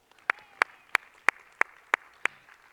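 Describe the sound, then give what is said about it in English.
Audience clapping in unison at a church: seven sharp, evenly spaced claps at a steady, brisk rhythm, with only a faint low murmur between them and no talking. “You can clap, yeah.”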